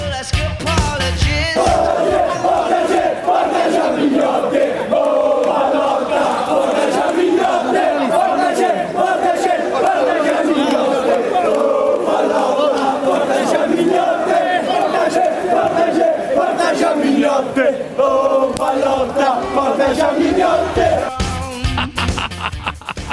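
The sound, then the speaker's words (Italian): A dense crowd of Roma football fans surrounding Pallotta chants and cheers loudly and continuously, celebrating Roma's qualification, voices merging into a steady roaring chorus with rhythmic swells, sustained for the whole stretch before easing slightly at the end. “Cioè, quei tifosi lì che esultano, eccetera, per la qualificazione della Roma, che circondano Pallotta, non si capisce perché dice: oh Pallotta, portaci a mignotte.”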